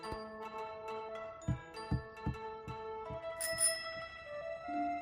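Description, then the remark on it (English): A bicycle bell rings out with bright, sustained metallic tones, joined by a few soft, rhythmic thumps underneath and a sharper ding partway through; no one speaks. “Well, no, but they gave me the bell.”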